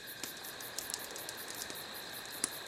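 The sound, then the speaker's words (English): Quiet, steady, slow cricket chirping on a cool night by a campfire, a thin high-pitched trill that keeps going throughout, with a few soft clicks and pops scattered underneath and no voices. “The crickets are going about it a bit slowly, so the campfire's nice.”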